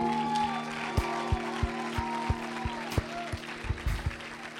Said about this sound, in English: kids one more hand clap.